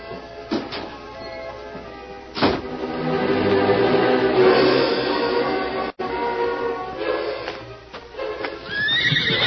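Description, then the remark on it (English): A horse whinnies loudly in a long, quavering neigh, with a few sharp hoof clops on hard ground before and after, without any talking. “I think he took his horse down to the corral.”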